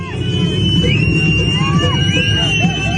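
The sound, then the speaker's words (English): About 100 protesters outside the Victorian Parliament in Melbourne cheer and shout at the arrival of large homemade wooden gallows on the back of a ute, a dense, continuous roar with whoops and high whistles rising above the babble of many voices throughout. “Outside the Victorian Parliament last night, 100 or so protesters cheer the arrival of large homemade wooden gallows on the back of a ute.”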